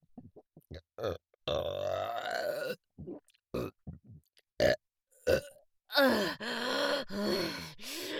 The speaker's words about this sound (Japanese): 出た出た。この部屋、ゲップ臭でやばいことになってるわ。